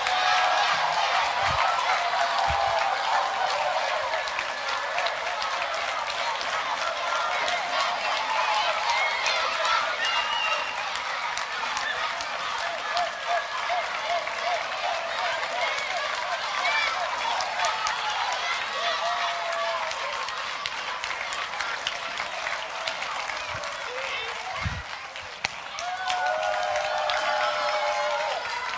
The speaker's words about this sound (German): Wir müssen jetzt so laut jubeln wie 500.000 Leute. Feuert die Kinder an, okay? Und ich gebe ein Startsignal. Auf die Plätze, fertig, los!